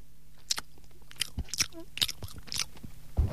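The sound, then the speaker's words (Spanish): Wet chewing of a croissant, with soft irregular crunches and smacks repeating every fraction of a second, quiet with no talking, ending in a brief louder rustle. “Espera, que estoy masticando un poco de croissant que intentaba comer.”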